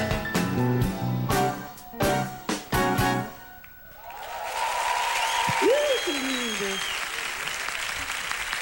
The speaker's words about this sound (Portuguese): A banda, palmas pra banda. Banda linda, dedicadíssimos.